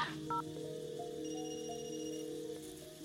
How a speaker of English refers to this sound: I'm going to call myself from this phone so I have its number. Hopefully outgoing calls don't trigger anything.